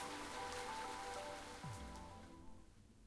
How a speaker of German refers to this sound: Der stärker werdende Regen störte mich nicht.